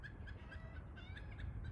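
animal, chicken squawking

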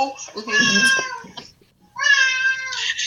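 animal, cat meowing

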